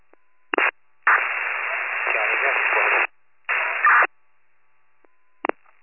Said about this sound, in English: That was mostly static.